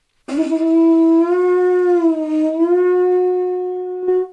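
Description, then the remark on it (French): A seashell blown like a horn, played standing away from the microphone: one long, loud, sustained tone lasting about four seconds, rich in overtones, its steady pitch wavering slightly and dipping once before a short breathy puff at the end. Pitch is set by putting the hand or fingers into the shell's opening. “et ça commence par du coquillage.”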